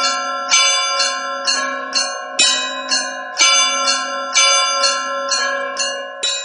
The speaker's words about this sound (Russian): Кульминацией праздника по всей стране и в Пензенской области стал колокольный звон. Церковные перезвоны звучали из каждого храма ровно в полдень.